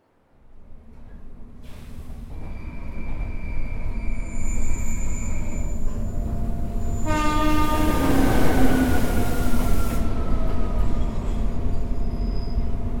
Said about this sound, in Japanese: さ、ホームに行こう。そろそろ始発が来るよ。ちょうどいい時間かな。もうそろそろ電車が来るよ。